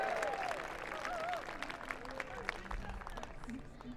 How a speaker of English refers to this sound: And woohoo! How about a cheer for family? Is that too cheesy? I don't think so.